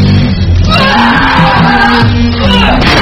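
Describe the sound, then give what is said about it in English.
A woman screams loudly and without a break for about three seconds on an abandoned farm, a raw, strained cry that fills the whole moment, with noisy rumble underneath. “Scream. Let it out.”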